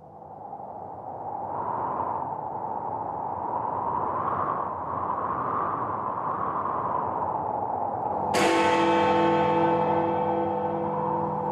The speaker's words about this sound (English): As the last stroke of the church bell ceased to vibrate